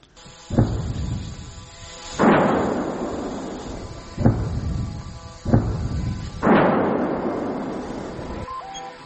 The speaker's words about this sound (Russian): Ну, достаточно мощно работает украинская артиллерия по оккупантам.